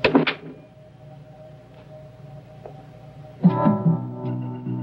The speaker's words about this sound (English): The inspector lets himself out through a door to the gardens.